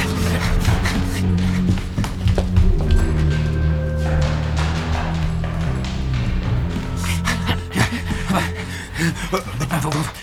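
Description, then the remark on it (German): Quick, heavy footsteps thud along at a running pace as people chase someone from a staircase into a hallway, loud, mixed with breathless panting and gasps over a steady low hum. “Er rennt in den Flur! Hinterher! Ja, los!”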